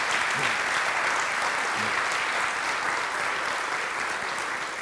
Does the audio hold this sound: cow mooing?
no